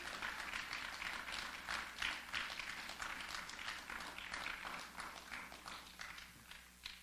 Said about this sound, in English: If you receive this word, just give God a clap offering this morning.